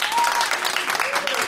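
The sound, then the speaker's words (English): A theater audience in Manhattan applauds steadily as people from Brooklyn are asked to clap, dense clapping with faint whoops and voices mixed in, lasting the full short moment without a break. “Applaud if you're from Brooklyn.”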